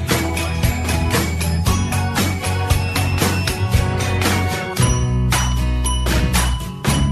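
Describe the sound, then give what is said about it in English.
A bell rings loudly and continuously for several seconds, its bright metallic tones struck in rapid repeated bursts with a jingling shimmer, briefly dipping before carrying on. No one speaks. “We got the bell. Okay, that's working.”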